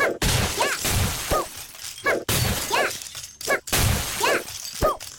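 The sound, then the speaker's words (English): Video game glass tubes shatter over and over as the player runs right holding down the right arrow key, three loud bright crashing bursts in quick succession, each with a short rising electronic chirp ringing through the breaking glass. “I'm just holding down right arrow, breaking the tubes as I run right.”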